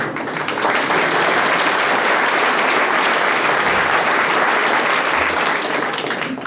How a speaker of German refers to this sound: Jetzt haben wir das gerade ein bisschen testen mit dem Applaus, weil ich bin heute ein bisschen gehandicapt.